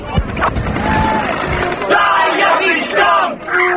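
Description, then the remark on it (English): A dense crowd of about 100 protesters yells and shouts over one another in a loud, chaotic roar as police with clubs charge them on Avenue A, during the August 6, 1988 Tompkins Square Park riot on New York's Lower East Side, with sharp thumps and scattered high cries rising from the din. “still a crowd of maybe 100 protesters.”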